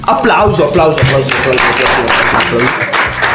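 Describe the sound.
A burst of steady, loud applause from a group, many hands clapping at once for a few seconds, with voices calling out and talking over it.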